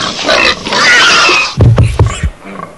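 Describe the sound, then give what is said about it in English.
A pig squeals loudly and frantically for about a second and a half, a harsh, shrill sustained cry, then breaks into several deep, heavy grunts as it is being slaughtered. “You ever seen anybody kill a pig before? No. Well, watch this.”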